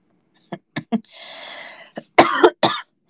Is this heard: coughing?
yes